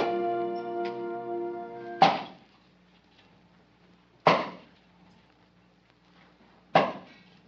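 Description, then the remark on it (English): Three heavy axe strokes bite into wood at slow, steady intervals, each a sharp crack with a brief ringing tail, as someone chops wood in the hot sun. A sustained musical chord cuts off at the first stroke. “you oughtn't to have something on your head chopping wood in this hot sun.”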